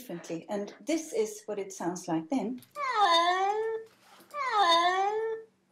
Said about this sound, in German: Aber in seiner Transportkiste auf dem Weg zum Tierarzt miaut er völlig anders, und zwar so.